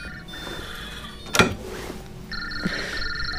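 Sophia Ravenscroft's telephone rings from inside a safe: steady electronic tones that stop and start again, broken by a sharp clack partway through, with no one talking.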